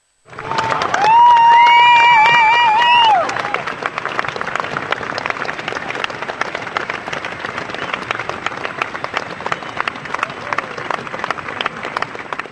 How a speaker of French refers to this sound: Et un grand applaudissement pour tous ces sportifs.